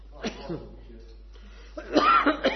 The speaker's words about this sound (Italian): Ma non è che ho preso la tua tosse adesso che sono qua.